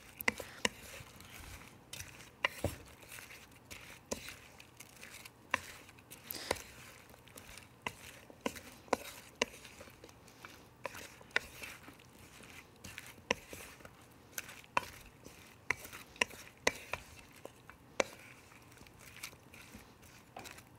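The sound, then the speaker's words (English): A spoon stirs and tosses food in a bowl to give it a light coating, making irregular clinks, taps and soft squishy scrapes that continue steadily for about twenty seconds with no talking. “I'm just going to mix these up with a spoon and just give them a light coating.”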